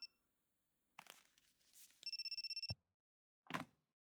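A telephone rings with a rapid electronic trill of about a dozen pulses, loud, cut off abruptly, with some clattering handling noise before and a thud after.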